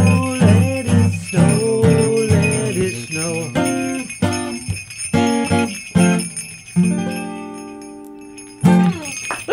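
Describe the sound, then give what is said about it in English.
Bells jingle and ring through a lively, rhythmic Christmas song passage, struck notes ringing out in quick succession with some sustained, shimmering tones, fairly loud, with no talking. “Thank you. Great singing and great bells.”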